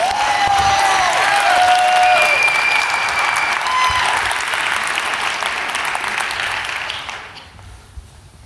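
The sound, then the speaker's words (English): Sustained audience applause welcoming a speaker after a Christian prayer, a dense steady wash of clapping with a few whistles or cheers near the start, holding loud for about seven seconds before quickly dying away. “Would you welcome Greg Bird?”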